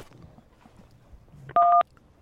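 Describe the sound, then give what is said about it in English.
A single loud telephone keypad beep from a caller on the line, where one beep means yes: a steady two-tone chirp lasting about a quarter second, sounding after a stretch of faint, low background murmur. “One beep is yes. One is yes. And two beeps is no.”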